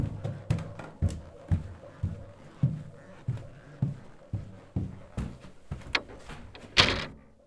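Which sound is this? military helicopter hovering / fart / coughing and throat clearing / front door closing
front door closing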